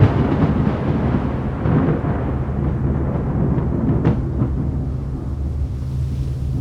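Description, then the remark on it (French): A close thunderclap as bluish-white lightning strikes a nearby tree: heavy, rolling low rumble that fills the whole stretch, with a sharp crack bursting through partway in before the roar slowly fades. No voices. “Soudain, un éclair d'un blanc bleuâtre déchira le firmament et la foudre tomba sur un arbre tout près d'elle.”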